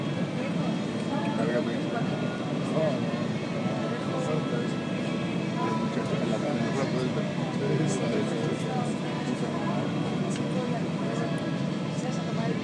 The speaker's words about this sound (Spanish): No sé si vais oyendo el cambio de los motores. Casi se oirá más la música que el cambio de los motores.